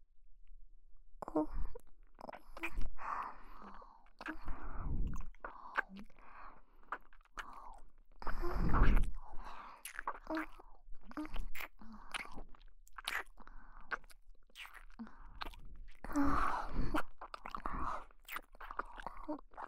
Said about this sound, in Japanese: じゃあ今日は昨日みたいに吐息も吹きかけながらお耳を食べてあげちゃうからね。